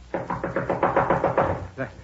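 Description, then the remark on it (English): A rapid run of about eight firm knocks on a door, evenly paced, then a short pause before one final knock. “Knock again.”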